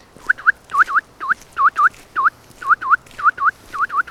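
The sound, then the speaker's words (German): A person whistles an imitation of a Eurasian nuthatch call: loud, clear, up-slurred notes, mostly in quick pairs, repeated steadily about a dozen times, with no talking. “Auch von den Kleinvögeln, die man auch im Garten haben könnte, wäre es vor allem der Kleiber. Wie macht er? Sehr laut, auffällig.”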